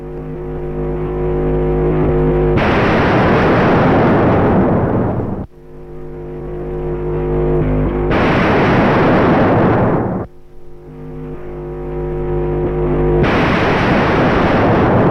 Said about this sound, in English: Ten million volt artificial lightning as produced by General Electric in its research laboratory.